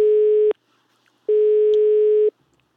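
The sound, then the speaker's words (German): Two steady electronic telephone tones, each lasting about a second, separated by a short silence, like a line ringing out. No voices. “So, jetzt mal die Telefonnummer mal raussuchen.”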